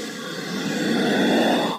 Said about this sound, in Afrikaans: Ons almal is bekend met die blaasgeluide wat slange kan maak wanneer hulle lug uitasem nou om aanvallers af te weer of bang te maak. Hierdie blaasgeluide kan varieer vanaf 'n diep gromgeluid by die koningskobra. Dit klink omtrent so.